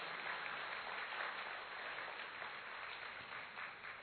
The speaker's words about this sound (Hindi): वे ताली तो बजाओ ना उनके लिए।